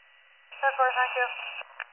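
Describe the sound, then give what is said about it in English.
Cancellation tones crackle over a dispatch radio: about a second of steady electronic tones stepping through a few pitches, thin and band-limited, then a soft hiss and a brief blip. “I'm gonna drop your cancellation tones now.”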